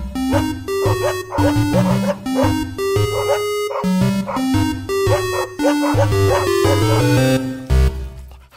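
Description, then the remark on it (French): A rapid, rhythmic run of loud dog barks and yips carries on steadily for several seconds, with a bouncy, almost tuneful quality and no talking over it. “C'est la niche à l'EMU. Wouf, wouf.”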